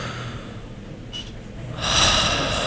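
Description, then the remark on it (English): Someone breathes in an exaggerated, slow way right into the microphone: a brief faint inhale, then a long, loud, airy breath that fills the rest of the moment, with no talking. “Breathing. Calm breathing.”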